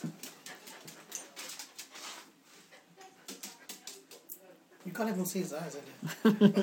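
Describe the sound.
A male dog with a fluffy curly tail whimpers and makes small whining vocalizations, growing louder toward the end, over a background of rustling movement and indistinct human voices.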